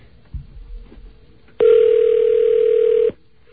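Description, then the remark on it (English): A telephone ringback tone on an outgoing call to an OmniPoint mobile phone somewhere in the city: one loud, steady electronic buzz lasting about a second and a half, preceded by a few faint clicks and then cut off abruptly. “It should go right... should be ringing him somewhere, wherever he is in the city.”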